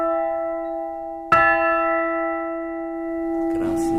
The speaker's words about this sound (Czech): K tomu zvonu byste mě ještě měl říct, vy jste ho vlastně dostali, jestli se nepletu, jako dárek, dá se to tak říct? Ano, my jsme ten zvon dostali jako dárek, byli takoví nadšenci, kteří ho nechali vyrobit pro nějaký kostel,